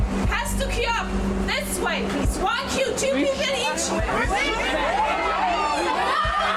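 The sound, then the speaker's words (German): A huge crowd gathered in front of the entrance to a cordoned-off queue screams and shrieks at once, loud and continuous, with many high, wavering voices overlapping above a steady low hum for the whole stretch. “Komm, lass die Leute mal schreien hier.”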